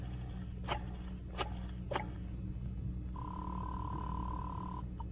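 A telephone being dialed without looking at the phone: three sharp, evenly spaced clicks, then a steady electronic phone tone holding for almost two seconds before cutting off, over a low, constant hum.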